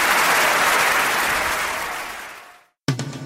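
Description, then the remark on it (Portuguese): A large audience applauds John Cage's silent piece 4'33" loudly, a dense wash of clapping that gradually fades out, followed by a brief silence and then the start of another sound. “Quanto à peça 4:33, apesar do silêncio, ela nunca mais deixou de ser aplaudida.”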